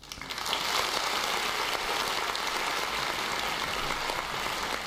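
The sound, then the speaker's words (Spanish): A crowd applauds, a dense, steady wash of many hands clapping that swells within the first half second and holds evenly to the end, with no voices heard. “El aplauso y todo, ¿eh?”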